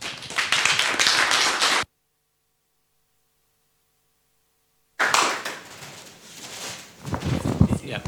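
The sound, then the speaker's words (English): An audience applauds to welcome two speakers, in two loud bursts of dense, crackling clapping, the first short and cut off, then several seconds of silence before the applause resumes and swells again. “So please welcome both of them with a big hands of applause.”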